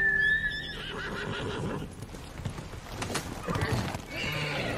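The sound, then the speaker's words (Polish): A horse lets out a loud, shrill whinny, followed by a steady run of clip-clopping hooves over a busy background. “A potem dajcie mi konia.”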